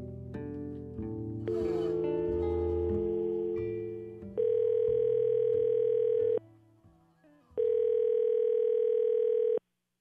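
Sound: telephone call ringing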